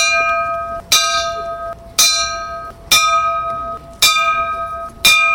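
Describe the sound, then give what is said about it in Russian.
At a rally in Belarus, a bell tolls five times for a moment of silence marking a tragedy 26 years earlier. It strikes at a slow, steady pace, about once a second, and each loud strike leaves a ringing hum that lingers until the next. No one speaks. “Я хочу пропоновать начать нашу встречу с нескольких хвилит молчания под удары звона.”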